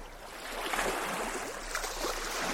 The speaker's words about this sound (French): Et alors, je veux pas retourner le couteau dans la plaie, mais vous vous souvenez comme c'est agréable d'être bercé par les vagues ?